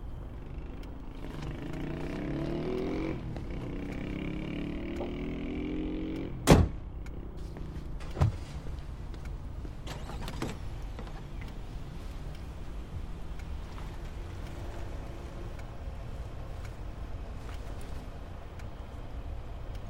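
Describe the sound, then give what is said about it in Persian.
Two sharp clunks a couple of seconds apart, like a car being locked and doors shutting as people climb in, over a steady low vehicle rumble and a faint whirring motor. “خب پس بزن یه کاری کنیم، من قفل میکنم ماشینو، تا یه جایی با شما میام، بعد چیچون میدم به برادرم بیت ماشینو درست کنه بیاره.”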